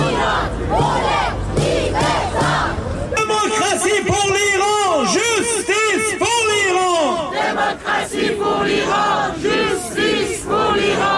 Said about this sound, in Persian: این فریاد دموکراسی خواهی برای ایران در ژنو سوئیس مقابل دفتر سازمان ملل، اعتراض به اعدام معترضان در ایران.